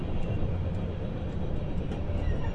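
Steady low rumble of a moving passenger train in Japan, heard from inside a carriage, running about four minutes late after a delay at Shin-Osaka Station; a continuous droning hum with faint rattling and no voices.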